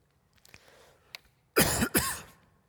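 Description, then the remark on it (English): Two loud, harsh coughs in quick succession from a speaker who has had a cough all week, preceded by a soft breathy throat sound and followed by quiet. “I've had a cough all week.”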